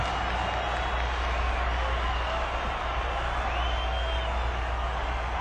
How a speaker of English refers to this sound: Warm round of applause.